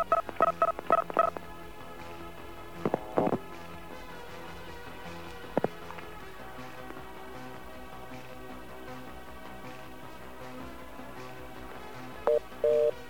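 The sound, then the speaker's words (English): A rapid run of touch-tone dialing beeps, dialing a phone number using the carrier access code for MCI, followed by a few scattered tones and a final pair of beeps, all over a steady low hum of line noise with no talking. “Using a different company, using the carrier access code for MCI, same phone number.”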